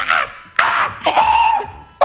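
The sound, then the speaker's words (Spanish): A person imitates monkey calls: two harsh, breathy vocal bursts, then a longer shrill hoot that holds a steady high pitch, and a final short yelp, all fairly loud with no speech. “Los monos me enseñaron este lenguaje para que me pueda comunicar.”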